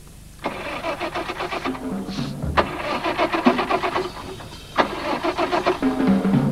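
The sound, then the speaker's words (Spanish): A car engine cranks over and over, its starter whirring in rapid rhythmic chugs through three long attempts separated by brief pauses, loud, never catching. “Tenemos el tiempo justo, arranca.”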